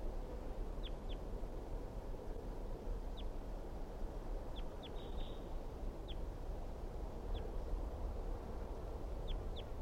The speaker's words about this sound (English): Stop. So recording, this is the wild bird.